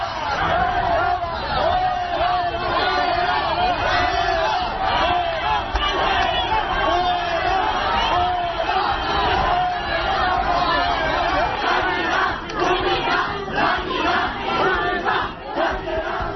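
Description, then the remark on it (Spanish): A crowd of protesters at the public hospital of Getafe, during a visit to its morbid obesity unit, shouts continuously, many voices overlapping in loud, rough yelling and chanting bursts, with a steady dense roar of crowd noise throughout. “Pero eso no le ha librado de los gritos.”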